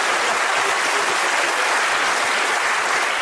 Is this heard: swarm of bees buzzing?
no